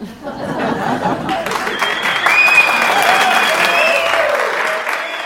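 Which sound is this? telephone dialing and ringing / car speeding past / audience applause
audience applause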